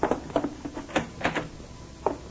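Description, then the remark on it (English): A closet door being opened, heard as a quick series of soft knocks and rattles over about two seconds, then a last sharper clack after a short pause; no voices. “At the closet door. I'll get it.”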